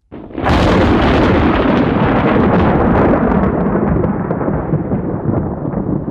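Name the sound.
thunder rumbling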